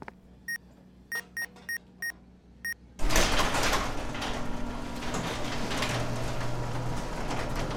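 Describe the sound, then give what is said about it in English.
A run of five quick electronic beeps, then a Flat Rock warehouse door suddenly opens with a loud, sustained mechanical whoosh and rumble that carries on steadily to the end. “Well, the door works.”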